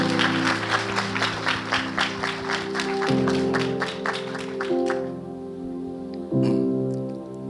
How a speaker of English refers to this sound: Yes, please give them a round of applause.